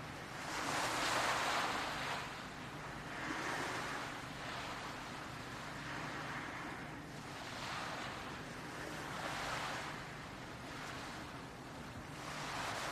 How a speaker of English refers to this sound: The breeze, the warm early sunlight, the gentle lapping peaceful waves. All of these creating a calm and peaceful place.